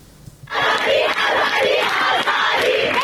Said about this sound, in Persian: فریاد اعتراض دانشجویان در ده‌ها دانشگاه ایران روز چهارشنبه به مناسبت 40 مهسا امینی، زن 22 ساله اهل سقز که در بازداشت گشت ارشاد جان باخت. تجمعاتی که تا ساعتی پیش در شب ادامه داشت، مثل اینجا در کوی دانشگاه تهران.